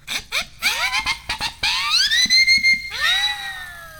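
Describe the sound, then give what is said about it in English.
A homemade double siren whistle, made from two siren whistles glued to a PVC T coupling, blown loud: a burst of quick, chirping rises and falls, then two long swooping wails that climb and hold a steady shrill pitch. “Yeah, I took 2 siren whistles and a PVC T coupling, and I glued the siren whistles to the T coupling so I have a double siren whistle, and I can make crazy sounds like this.”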